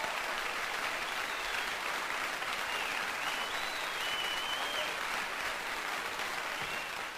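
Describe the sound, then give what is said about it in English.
Sustained applause from a large audience at the end of a live recording fills the whole stretch, a dense, steady wash of clapping at an even level with no voices standing out. “And of course, you should be clapping too.”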